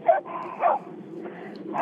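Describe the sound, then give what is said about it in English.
A dog gives a couple of short, sharp barks a moment apart, heard over a phone call from a caller in Seattle, Washington, sounding thin and muffled, with a low background murmur between them. “Yes, so there might be an occasional dog bark.”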